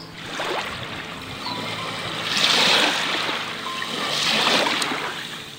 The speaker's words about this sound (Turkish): Sesler seni tam bir rahatlık hissine sürüklüyor. Denizin sesi, rüzgarın sesi, kuşların sesi.